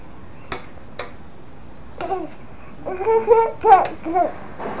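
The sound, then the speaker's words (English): Two sharp metallic knocks on a high chair ring out like a small bell, each leaving a bright high hum, followed by a toddler's lively babbling and squeals. “Can you make your high chair ring like a bell?”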